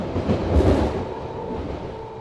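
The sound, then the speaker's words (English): A BART train rumbles steadily along its rails, a dense low roar with a faint metallic hum on top, loudest early and then holding a constant drone. No one speaks. “Once again, this train is out of service.”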